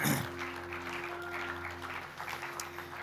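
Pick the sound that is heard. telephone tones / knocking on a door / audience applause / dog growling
audience applause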